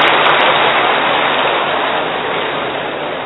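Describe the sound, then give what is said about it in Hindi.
A steady, dense, loud hiss of heavy rain pours without pause, fading slightly toward the end. Nobody speaks. “लग रहा है बरसात आ रही है।”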